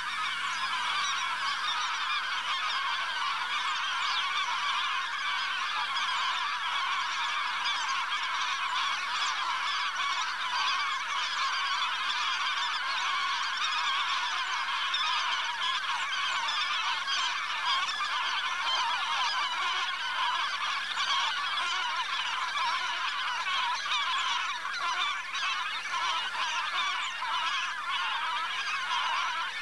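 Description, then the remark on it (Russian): A dense, continuous din of thousands of white-fronted geese in flocks flying over a river island, countless overlapping honks and yelps forming a steady roar for the whole stretch, no voices. “Какой гвалт! Это тысячные стаи белолобых гусей носятся над речным островом.”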